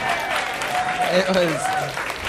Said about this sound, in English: You're welcome to applaud for that rhyme.